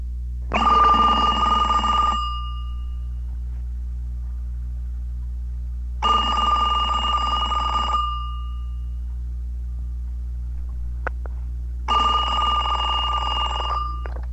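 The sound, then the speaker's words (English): A telephone at the Sacred Heart Hospital information desk rings three times, each ring a bright, buzzing trill lasting about a second and a half, spaced evenly with quiet gaps between, heard alone. “Butcher Slaughterall returning your phone call pager.”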